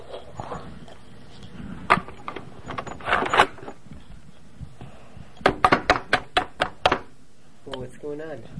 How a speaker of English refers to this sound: Why are you banging the milk? Because I need to scan all this.